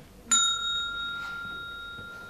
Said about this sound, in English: A teacher said to Billy, The bell has gone. Go into school, please.